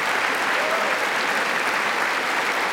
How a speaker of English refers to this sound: Oh, everyone's clapping that we see. It's interesting. A lot of clapping going on here. But not the whole room.